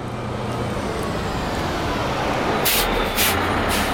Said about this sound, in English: The bus pulled up with my tour manager and Virginia Grohl, who was Dave Grohl's mom. And we spent the next 36 hours together on a bus to Denver.